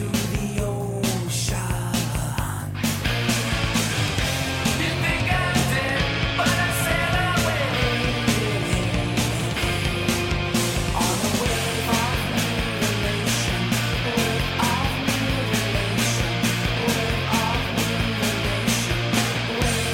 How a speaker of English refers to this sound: I'm thinking of a song like ….